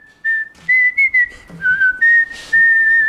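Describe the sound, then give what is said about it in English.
A steady, clear whistle holds one high note, dipping and rising slightly in pitch, with a few short breathy breaks and bursts of noise along the way. No one speaks. “The trio set off along the street, and as they near the end, they hear a distant shout. I say, you there! And a faint whistling.”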